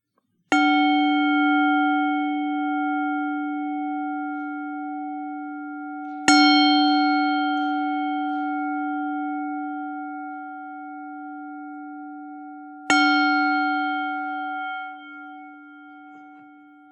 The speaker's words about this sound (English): I think someone ring the bells outside.